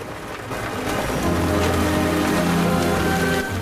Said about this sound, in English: runs down to a wide sandy beach, the storm coming to electrical life above her.